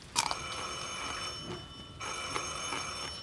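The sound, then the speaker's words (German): A telephone bell rings in a steady, continuous metallic trill, briefly pausing near the middle before ringing again, moderately loud with no voices over it. “Telefon.”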